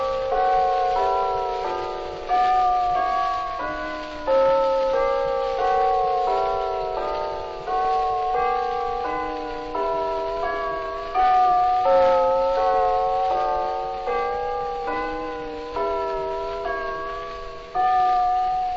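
Bell-like chimes ring out a slow melody, each struck note swelling and fading in a steady rhythm. The sound is thin and muffled like an old recording, with no voices.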